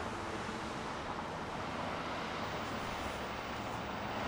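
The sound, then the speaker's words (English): A steady, dense roar of summer road traffic in Jackson at 10 in the morning fills the scene, an unbroken wash of passing vehicles with no single car standing out and no voices. “One of the constant summer challenges in Jackson is traffic.”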